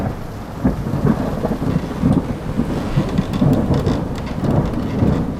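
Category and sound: nature, thunderstorm with heavy rain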